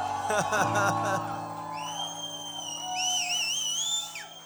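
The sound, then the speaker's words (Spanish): A church audience at a morning service erupts in loud overlapping shouts of love to Christ, then high sustained whoops and whistle-like cries carry over the fading crowd noise for several seconds. “¿Cuántos podemos dar un grito de amor a Cristo esta mañana en este lugar?”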